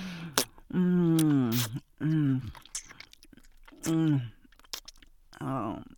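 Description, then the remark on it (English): Wet sucking and slurping mouth sounds with small smacks and clicks, broken up by four drawn-out voiced hums that rise and fall. “Sucking and slurping.”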